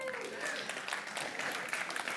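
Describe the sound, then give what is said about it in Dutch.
Steady audience applause, a dense wash of many hands clapping at an even level throughout, with a faint murmur of voices beneath it. “Ja, dat is vooral een applaus voor haar, denk ik.”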